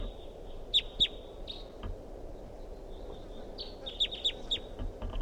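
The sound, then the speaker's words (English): A wild bird calls with sharp, high chirps, two quick notes early and a run of three later, over a steady thin high whine and a low rumbling background. “They're calling this a wild bird.”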